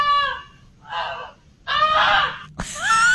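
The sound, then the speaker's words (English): A goose named Goosey honks loudly four times in a row, each call a harsh, nasal blast with short pauses between, prominent with no talking; its honking woke its sleeping family while flames tore through their barn. “started honking really loudly when the family was asleep.”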